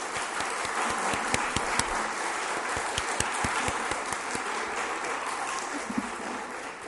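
A crowd applauds the Awana leaders, directors and helpers, who are standing. Dense overlapping claps form a continuous wash of noise, with sharper individual claps popping out, sustained at an even level throughout.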